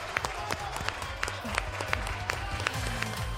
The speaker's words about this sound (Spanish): Venga, pues otro aplauso porque ya empezamos.